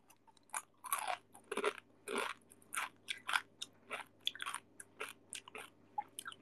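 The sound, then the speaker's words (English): Loud, crisp crunching of a dry snack being chewed, with about fifteen sharp bursts in an uneven, steady rhythm and no talking. “Sounds like you eating basreng.”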